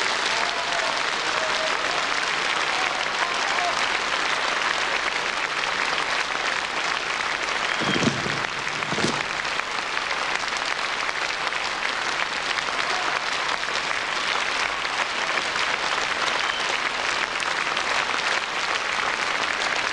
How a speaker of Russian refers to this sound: Спасибо большое, спасибо за аплодисменты.